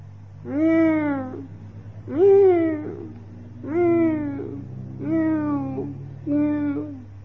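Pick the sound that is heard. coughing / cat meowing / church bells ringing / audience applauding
cat meowing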